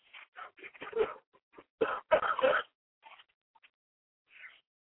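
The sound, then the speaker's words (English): A dog barks in a quick, irregular string of short yaps and whines, with a few softer whimpers trailing off after brief pauses. “Would you get a real dog?”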